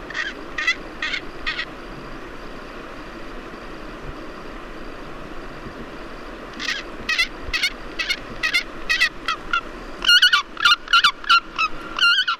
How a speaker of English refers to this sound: So here is the real sound of a Pallas's fish eagle collected by Matthias Richard.